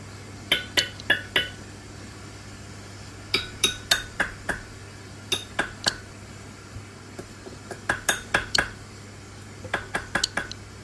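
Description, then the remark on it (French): Sharp metallic clicks from a Surinam toad (Pipa pipa), a fully aquatic frog calling underwater, made by a bone vibrating inside its throat rather than by expelling air, coming in short clustered bursts of three to five, bright and ringing like tapped glass, with no voices and a steady low hum beneath. “C'est en fait un os qui font vibrer à l'intérieur de leur gorge, en fait, et qui produit ce petit cliquetis métallique, quoi.”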